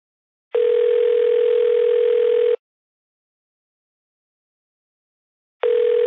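A telephone ringing tone heard down the line: a steady two-second electronic buzz, a pause of about three seconds, then the next ring begins. Clear, with no voices.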